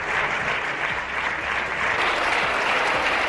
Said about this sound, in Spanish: Pues estos han sido los aplausos, un minuto exacto de aplausos que recibía Casado de la bancada popular, entre los que estaban muchos de los que, por cierto, ayer le dieron de lado y pedían un cambio precisamente de rumbo en el partido